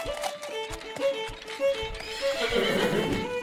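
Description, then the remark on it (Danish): Hooves clop in a steady, uneven rhythm, then a horse lets out a loud, wavering whinny toward the end. No one speaks. “For at alle disse maskiner kunne komme til at fungere, måtte der jo også skaffes drivkraft, og dette blev etableret ved hjælp af en hesteomgang, hvor hestens kræfter blev overført til de forskellige maskiner.”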